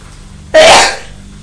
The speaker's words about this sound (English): Poor Mummy's sneezing because we've been out in the garden, haven't we?